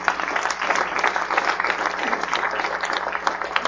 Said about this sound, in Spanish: Aplausos a nuestro Dios.